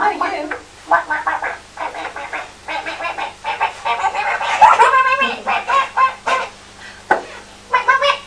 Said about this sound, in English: What's the chicken doing?